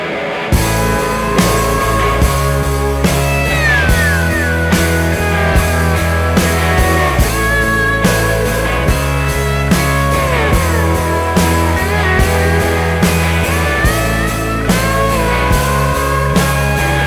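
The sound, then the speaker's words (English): A full, loud music track, the lead-off and title track of a female artist's new CD, plays steadily, with a driving bass line, layered instruments and sliding melodic lines on top, continuing without pause and with no talking over it. “This is the lead-off track and also the title track. It's called ….”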